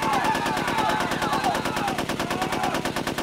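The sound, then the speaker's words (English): Automatic gunfire from a weapon fed with a red plastic banana magazine rattles without pause in a fast, evenly spaced stream of loud shots, a dense chattering roar that holds steady from start to finish. “The chattering roar stopped for an instant, then commenced again.”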